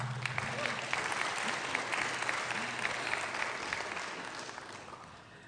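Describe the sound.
Steady audience applause, a dense wash of many hands clapping at an even level for several seconds, tapering slightly at the end, with faint voices underneath.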